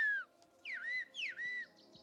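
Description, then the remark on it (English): A sequence of human whistles in a whistled language, sliding and falling in pitch like bird calls, three or four phrases in quick succession, fairly clear and moderately loud with no talking. It is a man's whistled reply saying he is cutting hay and will be there in a moment. “Amazingly, these whistles, sprinkled among similar-sounding bird calls, allow for nuanced information to be transmitted.”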